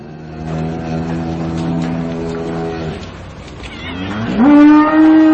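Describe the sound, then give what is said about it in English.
A cow moos twice: first a long, low, droning moo, then after a short pause a louder moo that swoops upward in pitch and holds. No one speaks. “You got aggressive cows?”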